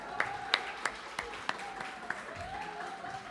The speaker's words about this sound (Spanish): Denle un fuerte aplauso al de Jamaica.